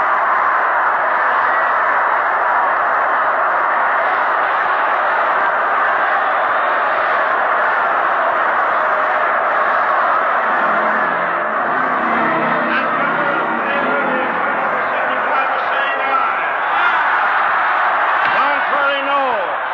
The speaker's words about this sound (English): Indiscriminate roar from the crowd. All those against, no. The ayes have it, says Chairman Sam Jackson of Indiana, pounds the gavel once decisively and strides off the rostrum.